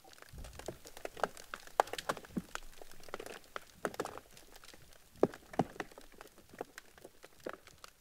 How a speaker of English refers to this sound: So sea ice has a lot of interesting effects on underwater sound. So it will create sounds. So yes, sometimes it does sing. It will sound like seals when it's rubbing, when ice flows are rubbing against each other. It will crack.